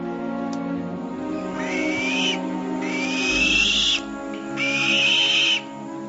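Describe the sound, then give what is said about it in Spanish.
A black-breasted buzzard, a bird of prey that has just landed on its nest, gives three drawn-out, rising whistled calls in close succession, loud, over a steady low background hum with no talking. “Un ave rapaz ha aterrizado en su nido.”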